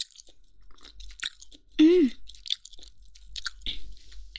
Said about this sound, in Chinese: 哎呀，还有一些皮皮没有咬完。粘在上面，晃来晃去的。再咬一点， 走掉，走下来了。这个皮也很脆，很有嚼劲呢。